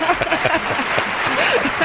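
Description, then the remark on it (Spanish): A crowd claps steadily throughout, a dense, fairly loud wash of many hands with no break, with a few voices mixed in underneath, giving a minute of applause in honour of a chair. “Pero quiero hacer una mención honorífica, un minuto de aplausos para esa silla”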